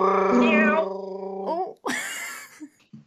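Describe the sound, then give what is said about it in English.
A person does a drawn-out, wavering cat-like yowl with a voice, sliding up and down in pitch, followed by a breathy rising squeal; fairly loud, with no other sounds around it. “Oh my god, you actually sound like a cat.”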